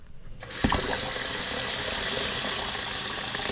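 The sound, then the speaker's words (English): Water pours steadily into a drinking glass as a boy sets the table for guests, a continuous splashing rush that starts abruptly and keeps going without pause. No one speaks. “would you please pour the water into the glasses and put them on the table?”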